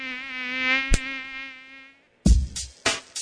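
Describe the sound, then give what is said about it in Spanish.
A steady mosquito whine drones for about two seconds, broken by a brief click, then stops; after a short silence come a few sharp, loud smacks. “La transmisión es de una persona infectada al mosquito que la pica y del mosquito que pica a una persona sana.”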